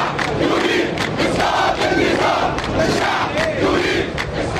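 A large crowd of protesters, mostly young and middle-class, chants against President Mubarak in Liberation (Tahrir) Square in Cairo, Egypt, calling "Get out Mubarak" and "Go away": a loud, dense roar of many voices rising and falling in a steady rhythmic pattern without pause.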